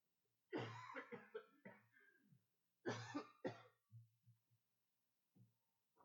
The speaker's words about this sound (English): And coughs that just won't stop. Excuse me.